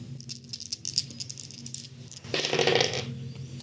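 Dice rattle and clatter in a quick series of small hard clicks as they are rolled for an intelligence check, building to a louder tumbling burst near the end, with no voices.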